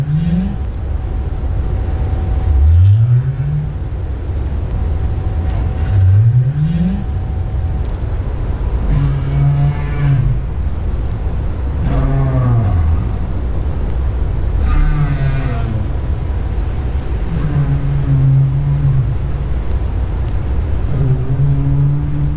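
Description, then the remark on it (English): A series of North Atlantic right whale up calls: low, rising whoops repeating every few seconds, some with harmonic overtones, over a steady underwater rumble and hiss. No one speaks. “That's a North Atlantic right whale. Some up calls, which are very important calls for the detection of the species, especially with respect to protection measures.”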